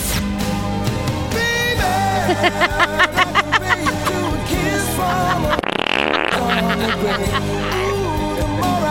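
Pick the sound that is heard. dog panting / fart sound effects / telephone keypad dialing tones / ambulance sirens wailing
fart sound effects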